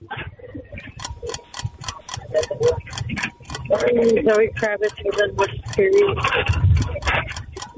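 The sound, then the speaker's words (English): A quiz timer ticks during a trivia question in a steady, brisk rhythm, about three sharp clicks per second, with no break throughout. Partway through, people start talking loudly over the ticking. “Oh, there's the timer.”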